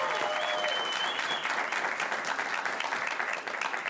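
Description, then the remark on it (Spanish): Steady, dense audience applause for Perrillo González fills the whole few seconds, a broad hiss of many hands clapping at an even loudness with no voices standing out. “Ok, un aplauso para Perrillo González, va a estar más tarde con nosotros.”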